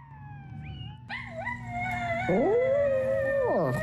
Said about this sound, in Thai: เจ้าพาซี่สุนัขตัวน้อยหอนคลอไปกับเสียงของตัวมันเองที่ดังอยู่บนสมาร์ทโฟน